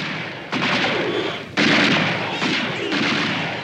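gunshots

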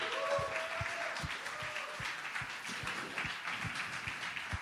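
audience applause

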